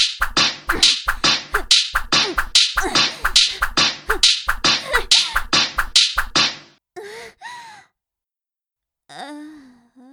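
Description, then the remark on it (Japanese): Sharp, loud whip lashes crack in a fast, steady series of about a dozen strikes on a person, followed by brief breathy vocal sounds, a gasp and a moan, after a short silence. “思いっきり撃ってあげるから。私の鞭を浴びながら惨めに言っちゃいなさい。”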